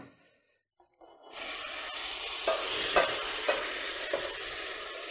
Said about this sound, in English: I'm here in the harvest kitchen, and you can see I've got two pots here. This first pot has water in it that's boiling. I'm going to transfer that water over into the other pot. This is very hot.